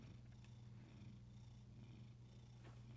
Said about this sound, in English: The purring.